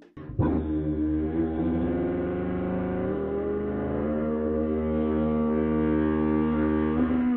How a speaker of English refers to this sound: That's crazy! So you're singing into the tuba and buzzing the mouthpiece at the same time? That's right.